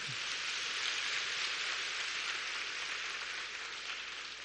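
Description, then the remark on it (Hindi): A crowd claps steadily for several seconds, a dense, even wash of hand claps with no breaks and no voices. “तो ईसा, तालियां बजाओ जरा।”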